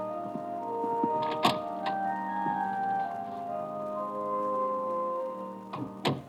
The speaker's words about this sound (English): I don't turn around when the door clicks softly shut behind me.